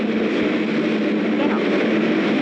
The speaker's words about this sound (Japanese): 打ち上げの 4.7 秒前にですね、メインエンジンに着火して、それからこう水力が立ち上がるんですが、